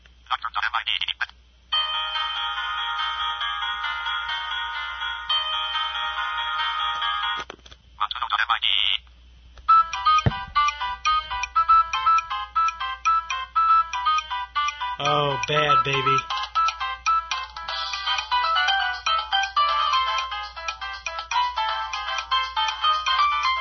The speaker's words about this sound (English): Ringing volume, 3 of 9. Ringing tone, Nokia tune.mid, 1 of 9. Okay. Select. Nokia tune.mid, 23 of 30.